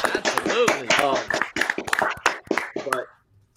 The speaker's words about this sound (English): In fact, my uncle is actually in remission now for leukemia, so let's get a round of applause for my uncle.